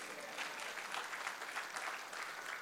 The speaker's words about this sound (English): I thought somebody's clapping for Jesus.